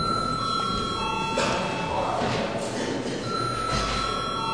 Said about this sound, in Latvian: Paldies, lūdzu zvanu.